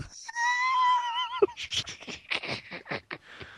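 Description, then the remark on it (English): A voice imitates Worf from Star Trek: The Next Generation as an angry pig, starting with a drawn-out, wavering squeal and then breaking into a quick run of harsh, snorting grunts, loud, with no words spoken. “Worf is a mean pig.”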